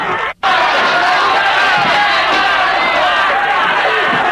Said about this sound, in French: des gens qui hurlent, des cris. On lui dit à mort, on le tape, on le tire. Il faut le tuer.